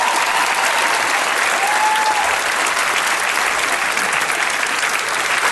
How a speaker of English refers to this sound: Got a couple of Trump supporters leaving there. Round of applause. Gave them a round of applause as they were leaving.